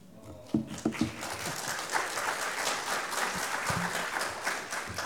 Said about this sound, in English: Y'all clap and she's not even here. Well, she'll watch the recording, I suppose.